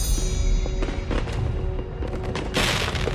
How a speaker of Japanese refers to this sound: うわー、とにかくでっかいのがたくさん。すごいすごい、夜空が花火でいっぱいになっちゃった。